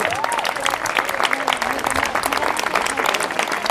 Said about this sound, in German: Also nochmal einen Applaus an euch alle, was ihr heute hier geleistet habt.